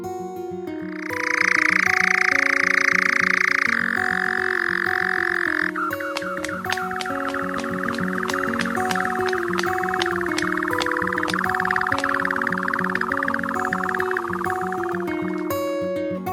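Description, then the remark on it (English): A bird's chirring song: a dry, rapid, mechanical-sounding trill that runs on without a break and stays steady and fairly loud throughout, with faint steady tones underneath and no talking. “Their presence is usually only noticed by their chirring song, best heard in the evening, like this.”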